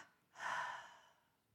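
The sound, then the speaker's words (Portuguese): A double exhalation through the mouth during a relaxation breathing exercise, a soft, airy whooshing breath that swells quickly and then trails off gradually into quiet, with no talking. “Expire pela boca com uma dupla exalação.”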